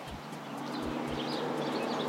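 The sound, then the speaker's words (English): Birds chirp and tweet faintly up in a tree outdoors on a sunny day under blue skies, over a steady wash of background noise, with a few soft low thumps recurring underneath. “They're all tweeting up in the tree, in the sun, blue skies.”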